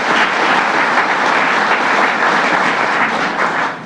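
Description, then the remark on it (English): Sustained applause from a large crowd for Thurman Thomas, a dense, steady wash of many hands clapping at once, loud and continuous before easing slightly at the very end. “Give him another round of applause, Thurman Thomas.”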